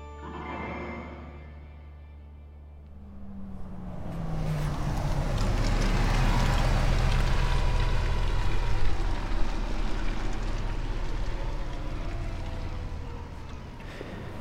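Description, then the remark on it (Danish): An empty bus, the last one to arrive, rumbles low, then revs up into a louder, steady roar as it turns at the harbor of Lohals, a small town on northern Langeland, Denmark, and drives back, easing only slightly toward the end. It is a cold January day. “Den vendte bare lige hernede på havnen og kørte tilbage igen.”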